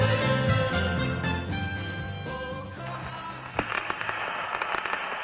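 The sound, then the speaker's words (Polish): Music plays for a few seconds, then gives way to the dry crackle of a vinyl record under the needle, with a steady hiss and scattered sharp pops and clicks. “Będzie trzeszczało. Radio Satysfakcja spod igły.”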